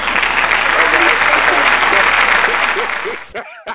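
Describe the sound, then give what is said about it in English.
Sustained audience applause for the sensitive people in the crowd, a dense crackle of many hands clapping at steady volume for about three seconds, then it breaks off abruptly and a voice starts to speak. “Applaud the sensitive people, please.”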